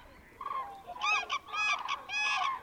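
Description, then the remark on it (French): A flock of migrating winter geese calls out with loud, overlapping honks in quick bursts, several birds at once, with no voices present, in the early morning as they feed and begin their journey north toward breeding grounds in central and northern Europe. “Comme le font ces groupes d'oiseaux que tu vois dans cette scène, après s'être reposés durant la nuit, ils profitent des premières heures de la journée pour se nourrir et commencer leur voyage vers le nord.”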